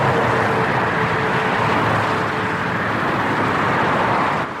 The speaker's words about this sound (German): Diesen Lärm kennt in Deutschland wahrscheinlich fast jeder besser als das Rauschen eines Meeres. Die Autobahn macht eben viel Lärm. Besonders ist an dieser Stelle in Berlin-Baumschulenweg, dass hier eine begrünte Lärmschutzwand die Geräusche